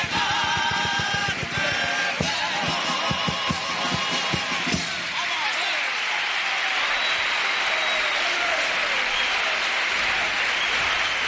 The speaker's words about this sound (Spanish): ha ofrecido este paso doble en el que el público ha aplaudido y se ha levantado antes incluso de que acabara, ¿eh? Antes de que acabara, ¿eh?